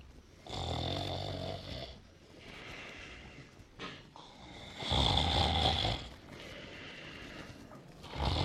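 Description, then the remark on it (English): A man snores heavily in his sleep just before a 5 a.m. alarm is due to go off, two loud, rasping breaths with softer, wheezy breathing between them, in a slow and uneven rhythm with no talking. “And now as we look in, … is sound asleep, and it's almost time for the alarm to go off.”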